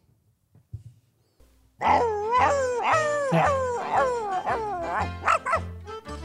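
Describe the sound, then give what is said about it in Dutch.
A dog in a pirate-themed amusement park ride barks and howls in a long, rhythmic series of yelping, wavering calls, loud, after a brief quiet moment with a faint voice. “Maar we hebben hier bijvoorbeeld ook de hond in de attractie.”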